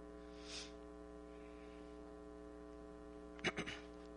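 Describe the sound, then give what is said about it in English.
A phone buzzes on vibrate, a short cluster of rattling pulses near the end, over a steady electrical hum that runs the whole time, with a brief soft rustle early on. “If y'all hear that, it's my phone ringing. I've got it on vibrate, but I got it up there.”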